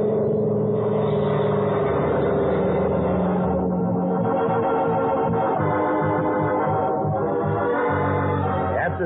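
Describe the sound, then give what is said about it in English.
The two engines of the airplane Yankee Doodle roar to life together and rev for takeoff, a loud, steady droning hum with rhythmic throbbing pulses that rises and surges, with no voices. “Once I get the engine started, I'll switch on the landing lights.”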